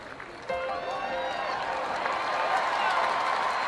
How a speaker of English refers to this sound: She actually walks out from that door by the scoreboard, by the green monster, and her family runs across the field, and the Red Sox fans in the stands go wild applauding her.